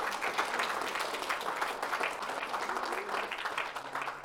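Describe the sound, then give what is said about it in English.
Steady applause from a church audience for a group of young people, many hands clapping in a dense, continuous patter that holds at a fairly even loudness for several seconds without voices standing out. “Can you give these young people one more round of applause?”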